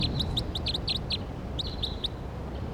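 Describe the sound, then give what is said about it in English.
A bird, numbered 301, calls with a rapid series of sharp, high chirps in quick bursts, then a short pause and a few more, loud over a steady low background rumble. “Now I'm pointing at 301 because he's calling really loud.”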